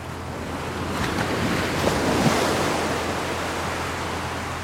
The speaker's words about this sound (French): Nous survolons une partie de la plage. J'adore voir ces vagues qui frappent les bords de plage.